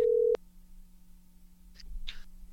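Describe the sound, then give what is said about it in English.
A loud, steady telephone dial tone sounds briefly before cutting off with a click, followed by quiet line hiss and a couple of faint clicks as a phone call is placed. “let's get on the phone with our friend”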